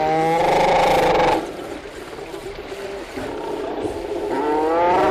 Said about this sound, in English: Sounds of a seal rookery on St. Paul Island. The recording's part of an audio archive from Cornell University.